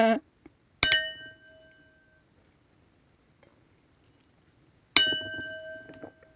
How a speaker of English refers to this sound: Right, so I always served my red wines in a crystal glass because those are the glasses that go ching, ching, or even doing, ching and doing, ching, wing, doing, doing. That's it. They're the ones. They sound like bells, don't they?